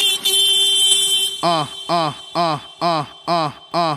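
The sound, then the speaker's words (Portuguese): A young man from Sergipe, at the Pirituba bus terminal, vocally imitates a car horn, holding one long honk and then blaring six short, evenly spaced honks, loud with nothing else behind him. “esse aqui é um rapaz que eu acabei de conhecer no Terminal Pirituba, o nome dele é... …”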